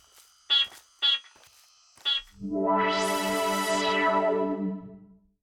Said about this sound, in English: Let me beep for you. But I'm doing it because I want to. Great. Beep.